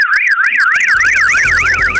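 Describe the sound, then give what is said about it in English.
A loud car alarm wails, its tone sweeping rapidly up and down in a steady rising-and-falling pattern that speeds up slightly, with a low rumble beneath. “If you hear the car alarm, you're going to need to run to the location, open the boot of the car, and the cash you find inside it, it is all yours.”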